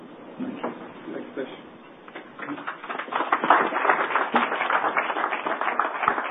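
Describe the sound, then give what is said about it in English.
Audience applause at a company financial results presentation as a speaker hands over on stage: scattered clapping that swells after a couple of seconds into a steady, dense patter of many hands, with faint voices murmuring underneath at the start. “I hope you don't have to applaud again when I get off the stage, because I'm going to be back”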